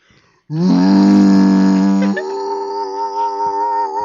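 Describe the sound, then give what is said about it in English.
A single voice imitates a crowd's boo with a long, loud, low drawn-out "boooo" that jumps to a higher, slightly weaker held tone for the last couple of seconds. “Boo and, but I would boo and hiss.”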